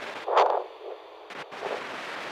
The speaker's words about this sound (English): Engines on.